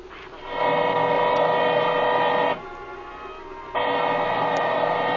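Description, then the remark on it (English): A drill runs with a steady, buzzing mechanical whine, eases down to a lower hum for about a second, then revs back up to full strength. No voices are heard. “I can't hear nothing with my ear next to this drill.”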